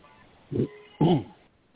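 Two short, harsh coughs from a man, heard through a thin, band-limited telephone line, the second burst louder and more drawn out than the first.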